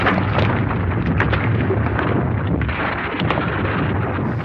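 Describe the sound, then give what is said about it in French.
A deep, continuous rumble with heavy low-end roar and gritty crackling textures on top, holding steady and loud throughout: an avalanche in the mountains in the middle of the night, making the ground tremble around the fuselage of a crashed plane where survivors are sheltering. “En pleine nuit, le 29 octobre, soit 16 jours après le crash de leur avion, un tremblement dans le sol réveille les survivants.”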